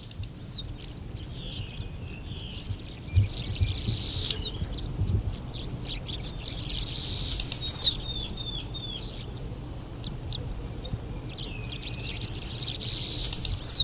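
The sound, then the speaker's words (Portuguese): A blue-and-white swallow's song of thin, buzzy, high twitters and rising chirps repeats continuously over a low background rumble, steady, with no voices. “Eu posso apresentar um canto de nota que é León cianoleuca, que é a espécie mais comum dentro da cidade de Campinas, e outra espécie que canta diferente.”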